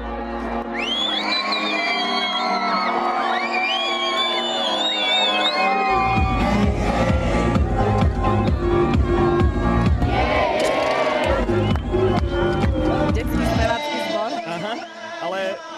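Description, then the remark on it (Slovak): A loud concert crowd cheers and whistles continuously, shrill sliding whistles cutting through the roar, with a heavy low thumping joining in after about six seconds. “Ľuďom až tak nepáčilo, pískali.”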